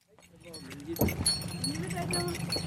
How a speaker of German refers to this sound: Noch stehen die Reisfelder unter Wasser. Zwischen ihnen auf einer erhöhten Straße zieht ein Esel einen mit Ästen beladenen Karren ins nächste Dorf.